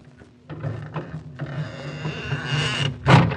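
A door creaks open with a long, wavering squeal that rises and falls in pitch for about three seconds, then ends in a sharper, louder groan.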